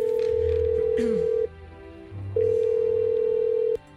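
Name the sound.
telephone call ringing tone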